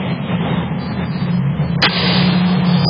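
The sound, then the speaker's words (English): A car mirror strikes another mirror with a sharp, gunshot-like crack over steady engine and road rumble. A second, smaller snap follows near the end. “This is when the mirror hits the other mirror.”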